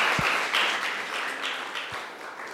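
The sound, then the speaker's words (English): Steady audience applause for a man, a dense wash of many hands clapping at an even level throughout, with a couple of soft low thumps mixed in and no voices. “Yeah, give him a clap.”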